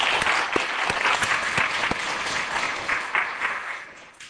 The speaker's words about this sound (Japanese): 少年院に行ってくださった皆さんに感謝の拍手です。